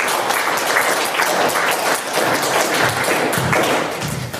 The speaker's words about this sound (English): A smattering of applause